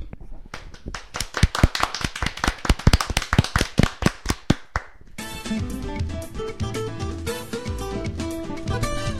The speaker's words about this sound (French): Sur ce, je pense que nous pouvons faire un tonnerre d'applaudissements.